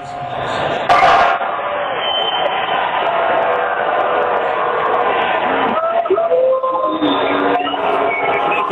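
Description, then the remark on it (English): A dense, roaring parade crowd cheers and shouts continuously around a team bus as items are thrown up to the players and the crowd is sprayed with champagne, with a sharp burst near the start and a sustained loud wall of voices throughout, like an outdoor celebration. “The loudest cheers appear to be when they are sprayed with champagne. I'm just going to hold the phone up here for about 10 seconds, let you listen in.”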